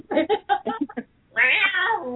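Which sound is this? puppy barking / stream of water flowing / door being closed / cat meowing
cat meowing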